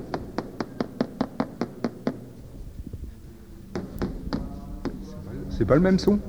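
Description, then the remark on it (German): A rapid, even series of about nine sharp taps on a solid, dull surface as a cheese trader strikes a cheese wheel with the handle of his tool, then a pause and a few more scattered knocks on the neighbouring Comté wheel as a voice begins talking over them. “Mit dem Griff seines Arbeitsgerätes klopft der Händler auf das Käserad und dann auf den daneben liegenden Comté.”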